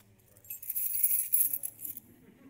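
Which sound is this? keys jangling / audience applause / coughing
keys jangling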